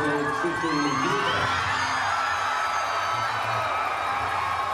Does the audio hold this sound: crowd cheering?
yes